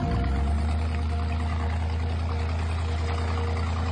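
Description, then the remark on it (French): A pirogue's engine idles steadily at night by a beach, a deep, constant rumbling drone with a faint mechanical whine above it, unchanging in loudness throughout, with no voices. “Bae ta moteur.”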